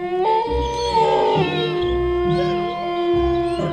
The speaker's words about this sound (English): Okay, thank you, wolves. Down, boys, good girls, please take it back to Borga Pass.